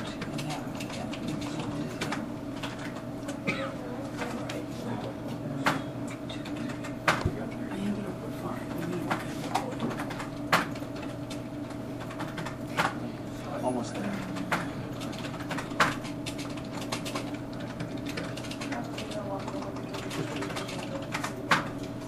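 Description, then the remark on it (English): Rapid, forceful keystrokes clatter irregularly on a computer keyboard, sharp clicks coming in quick bursts over a steady low background hum. “You are fierce on a keyboard.”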